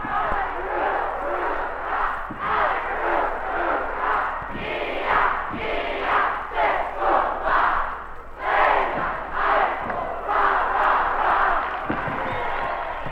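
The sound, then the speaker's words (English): A large high school crowd chants the Lehman team cheer in loud, rhythmic bursts that carry on for the whole stretch, with a few scattered thumps underneath, during a game between Lehman and Lincoln. “And here comes the Lehman chair. Let's pick it up.”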